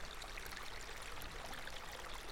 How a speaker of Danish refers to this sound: Det er ikke så høj en lyd. Men det danner, og så på et tidspunkt, så danner det sådan en sø. Og så lyden, så det er sådan helt regnlandskab i lejligheden. Og den der regn der, eller der rammer alle de der forskellige materialer.